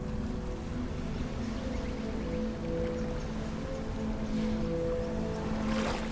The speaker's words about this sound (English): Surrender them to the ebb and flow of the waves.